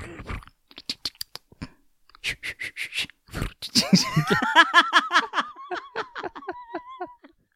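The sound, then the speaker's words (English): A voice imitates the soft rustling heard on a gardening show with a run of short, crackly mouth bursts, then shifts into drawn-out voiced sounds that wobble in pitch, almost like stifled laughter. “You don't know what they're doing, but all you can hear is rustling.”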